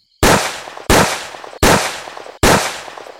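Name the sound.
repeated pistol gunshots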